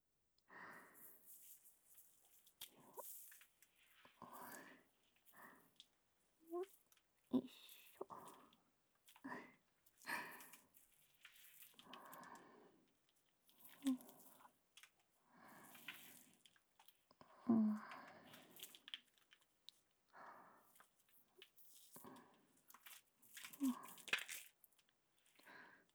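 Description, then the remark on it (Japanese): Soft, wet squishing of soft foam lather being rubbed over a face during face washing, in a steady run of short, irregular bursts for about half a minute. “まずは洗顔ですよ。柔らかい泡でお顔洗っていくので、あなたはお目目閉じててくださいね。”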